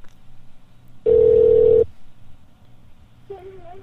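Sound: telephone line ringing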